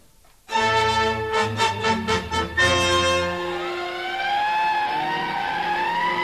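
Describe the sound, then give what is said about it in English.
Fire engine sirens as fire engines evacuate from Latigo Canyon during a fire: a run of loud, pulsing horn blasts gives way to a steady rising and falling wail, with the engine rumble underneath and no talking. “The engines are evacuating now.”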